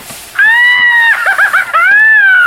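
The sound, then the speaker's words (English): A voice imitates a silly, high-pitched scream: a long sustained shriek, a burst of quick warbling yelps, then another rising shriek, loud with no other sounds. “Inside, I feel like I'm giving out the world's silliest, girliest scream.”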